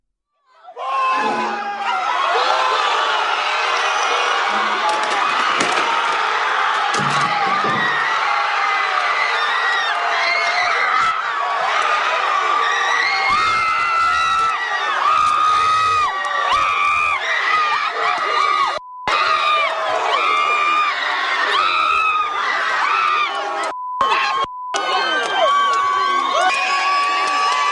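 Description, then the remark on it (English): A dense crowd of young American university students shouting, whooping and cheering at once, loud and sustained for nearly half a minute, with shrill screams and chanting voices overlapping in a chaotic roar. “These are young Americans, a university of higher education and learning, and listen to what they sound like.”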